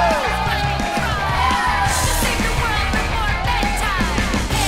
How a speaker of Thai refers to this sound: ขอเสียงกรี๊ดและปรบมือ